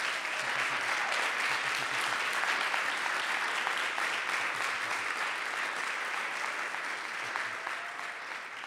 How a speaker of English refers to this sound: Encounter team, I want you to stand up, please. I just ask y'all, I'm fixing to hand the mic over. If y'all would, y'all just give them a round of applause, please.